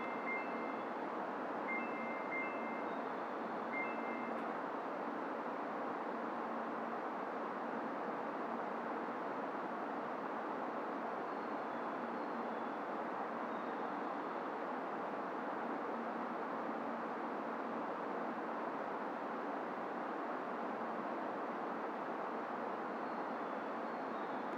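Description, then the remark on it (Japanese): The Tsubame 318 train bound for Hakata, next stopping at Shin-Ōmuta, pulls away from platform 11 of a station in a steady, loud rumbling roar that fills the whole recording, with a few short electronic beeps near the start and no voices. “11番乗り場から列車が発車します。”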